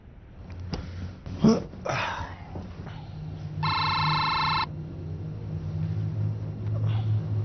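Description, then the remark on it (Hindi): A single electronic telephone ring from a repeated incoming call lasts about a second. It is bright and buzzy, cutting through a low steady rumble, with a few thumps and rustles before it. “हाँ कौन? मामा आप दोबारा फोन कर रही हैं?”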